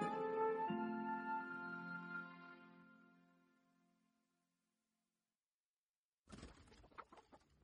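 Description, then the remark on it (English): A sustained, ringing tone fades away into silence, then chickens break in with a quick, busy flurry of clucks, moderately loud. “When she needed a plump chicken for the evening supper, she'd send her Leroy to do the fetching.”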